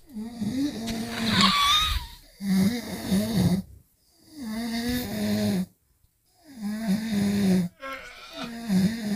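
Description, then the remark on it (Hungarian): Someone snores in drawn-out, groaning breaths, with moaning and whimpering tones mixed in, repeating roughly four times with brief silent gaps between, fairly loud. “Igen, ez nem annyira durván horkol, inkább nyög, nyöszörök, horkol, szenved, rosszat álmodik.”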